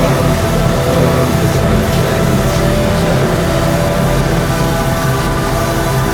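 A steady, loud roar of a car engine and road noise, as if riding inside a vehicle moving fast, with a constant low drone and no voices.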